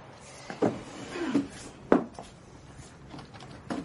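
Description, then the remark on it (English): A wooden bureau drawer is pulled open with a few short scraping slides and soft knocks, fairly quiet, with no voices. “I saw it only the other day in the drawer of the bureau. Perhaps you should check that it is still there.”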